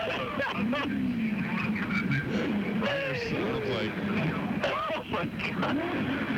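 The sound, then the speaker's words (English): Race cars roar around a track, heard from turn 4, in a steady, loud, continuous wash of engine noise, with a man talking over the din throughout. “Listen to that. That is the roaring, rolling listen thunder.”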